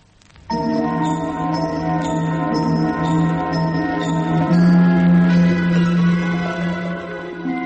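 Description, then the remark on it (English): A ship's bell strikes eight bells in a steady series of strikes, its resonant tones overlapping into a sustained metallic hum, fairly loud, with no voices. “Eight bells rang out as I climbed the companionway to the bridge for the four-hourly watch.”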